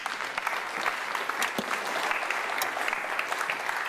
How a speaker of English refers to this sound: Okay, give her a hand.